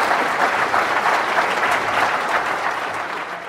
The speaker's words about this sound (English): So could you please have a very big round of applause for Pragya Patel.